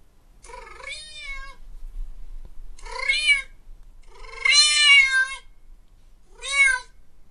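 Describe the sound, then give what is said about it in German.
Four drawn-out meows from a cat in a 'Cat Whisperer' TikTok video played on a monitor, with no talking: a medium cry, a short one, then a long, loud, wavering yowl, and a final brief meow. The calls are high and harmonic, with quiet gaps between them. “auf der rechten Seite sieht man halt den Typ, der diese komischen Geräusche macht. Und auf der anderen Hälfte vom Monitor sieht man seine Katze”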